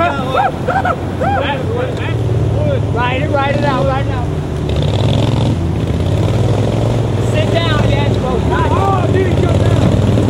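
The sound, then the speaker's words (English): Motorboat engines drone loudly and steadily, a continuous churning rumble, as boaters cruise the Illinois River during a 2011 tournament trying to catch jumping Asian carp in nets, while several people shout and talk excitedly over it. “Boaters cruise the Illinois River and trying to catch Asian carp in their nets.”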